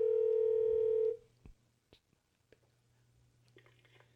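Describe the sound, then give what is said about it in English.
A loud, steady telephone dial tone holds for about a second, then cuts off into a quiet stretch of sparse, short clicks and blips as a number is dialed to call the event director, over a faint low hum. “So I'm going to buzz her real fast.”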